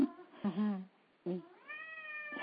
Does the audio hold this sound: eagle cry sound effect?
no